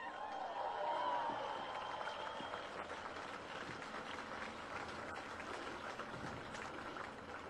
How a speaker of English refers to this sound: It's great to see yet another brilliant turnout in Melbourne, in support of our struggle for justice. Give yourselves a big cheer, folks.